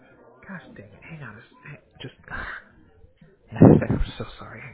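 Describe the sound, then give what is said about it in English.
A single loud sneeze bursts out near the end, following a stretch of quieter vocal sounds and murmuring. “Bless you.”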